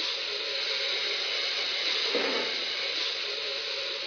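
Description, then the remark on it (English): A steam locomotive hisses steam in a steady, loud, unbroken rush for several seconds, with no voices and only slight swells in intensity. “This is a sweet running engine today. This engine is so easy to fire and it's free steaming.”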